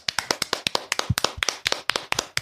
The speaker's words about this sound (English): you're getting the big clap.